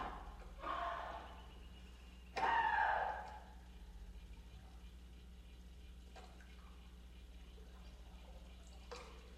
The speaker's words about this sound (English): When the drama is over, she takes off her headphones, goes down to the water, and splashes it with a stick.